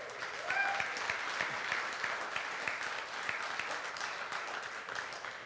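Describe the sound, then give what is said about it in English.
A crowd applauds steadily, many hands clapping in a dense, even wash of sound that holds at a constant level throughout, with a faint whistle rising briefly near the start. “And you're not clapping for me.”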